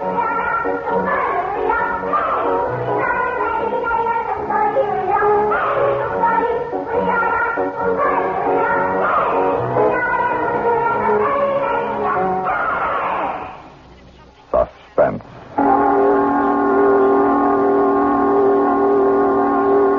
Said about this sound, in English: Listening to a Korean Christmas carol written for Suspense by George Bamber.